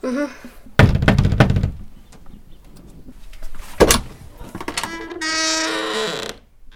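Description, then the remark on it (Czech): A quick burst of knocks on a wooden cottage door, then a single heavier knock a few seconds later, followed by a drawn-out creaking, squealing sound; no one speaks. “Ale dveře chalupy. Zkusíme štěstí, ne?”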